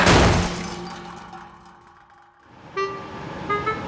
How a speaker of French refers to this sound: La locomotive sort enfin des plateaux de tournage en défonçant une autre porte du hangar.